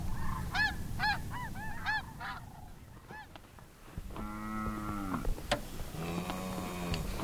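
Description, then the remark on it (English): Geese honk repeatedly in quick bursts, then give longer, drawn-out calls, all loud over a steady outdoor background hiss, with no one speaking; at the Laguna Madre lagoon on the Rancho Rincón de Anacahuitas ranch in Matamoros, Mexico. “But you can look at areas that are just water and sky and birds.”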